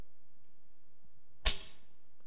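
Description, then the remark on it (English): A single sharp swish of a homemade whip without nails, glass or rocks in it slices through the air and ends in a bright snap that quickly fades, loud against an otherwise quiet background. “But they took a whip.”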